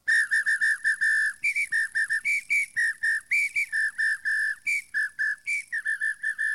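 A shrill whistle played as a musical instrument, blowing quick rhythmic bursts that hop between two or three pitches in a lively, dance-like pattern, loud with no voices.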